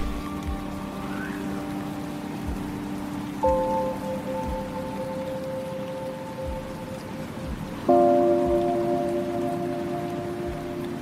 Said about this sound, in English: And by then, a storm was passing through and made recording impossible.